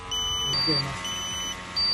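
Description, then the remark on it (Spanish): A carbon monoxide meter used by emergency services to measure and extract carbon monoxide in a dwelling beeps with steady, shrill electronic tones that switch back and forth between two pitches in half-second stretches, over a low background rumble. “De hecho, este es el sonido del momento de la medición y extracción del monóxido de carbono.”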